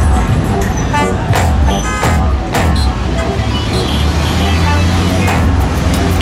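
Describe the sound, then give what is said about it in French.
Car horns honk repeatedly amid loud, steady street traffic, with indistinct voices mixed in; drivers honk for peace in answer to a lone protester's call to bring the troops home, two blocks from the former Confederate Capitol in Richmond. “klaxonner pour la paix, ramener les troupes à la maison.”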